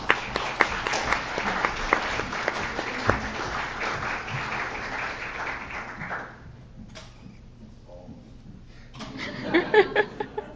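A crowd applauds with dense, steady clapping that fades out around six seconds, leaving a quiet stretch before a short second burst of claps near the end.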